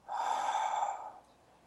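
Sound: deep breathing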